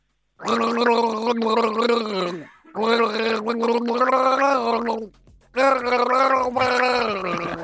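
Voiced gargling of water in three long, bubbling bursts separated by short pauses, a steady throaty tone wavering throughout, fairly loud, with no talking.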